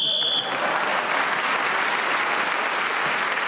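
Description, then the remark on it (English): A short, shrill referee's whistle blast ends the round of a panel game as Julian Clary is speaking, sounding on one steady high pitch, then breaks into loud, sustained applause from an audience that carries on to the end. “So Julian Clary was speaking as the whistle went, gained that extra point, his increase his lead at the end of the round, and we are moving into the final round.”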